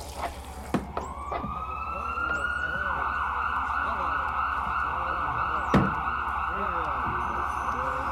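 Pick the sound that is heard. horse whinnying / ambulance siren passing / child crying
ambulance siren passing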